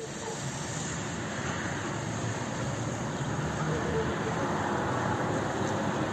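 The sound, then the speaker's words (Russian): A multiple rocket launcher salvo fires from occupied territory in Ukraine's Kherson region, heard as a loud, continuous rushing roar that holds steady with no clear breaks between launches. No voices are present. “Это выстрелы системы реактивного залпового огня с оккупированной территории Херсонской области.”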